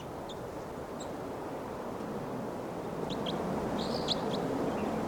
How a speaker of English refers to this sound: pointed in the direction of the wild bird, and 306 is calling.